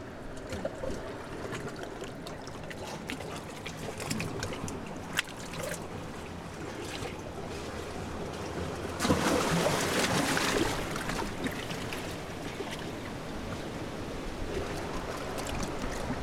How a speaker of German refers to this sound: Die Welle ist da und die scheint in einer riesen Umarmung die ganze Welt zu umfassen und alle zu verbinden.